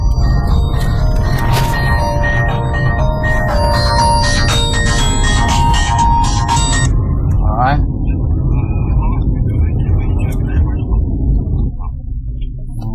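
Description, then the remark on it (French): A mobile phone rings with a steady tonal melody for several seconds over a low engine rumble inside a car, a call telling the car to stop, then stops, leaving only the vehicle's hum and faint voices. “Un téléphone pour nous dire de nous arrêter.”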